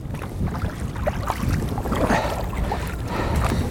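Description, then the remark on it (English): Paddles dip and splash steadily against water from a small boat being paddled from the bay back into Islayus Creek in San Francisco, with a constant wash of wind and water noise filling the background and no voices. “paddle back into Islayus Creek from the bay”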